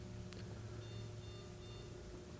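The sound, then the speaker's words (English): A battery backup unit beeps faintly, three short high-pitched tones in an even rhythm over a steady low electrical hum, with no talking. “Sound like a battery backup.”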